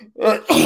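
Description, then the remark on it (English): A single quick sneeze, fairly loud: a brief voiced intake followed by a sharp, breathy burst, with no talking around it. “Bless you.”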